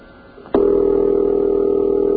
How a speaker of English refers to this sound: The phone is ringing in Patchogue.